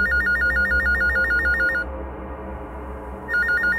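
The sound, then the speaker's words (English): A telephone rings with a rapid warbling trill, stops for about a second and a half, then starts ringing again; loud, with no voices. “I scooped the phone up, pale crimson fury spilling through the trademark sparkles of a necromance in my aura.”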